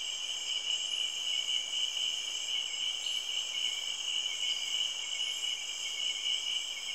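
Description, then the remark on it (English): Crickets chirp steadily on a summer night, a dense, high-pitched trill that holds constant and fairly loud throughout, with a few faint insect tones layered on top and no voices. “And the tree frogs and the crickets and the birds, and it's just deafening sometimes.”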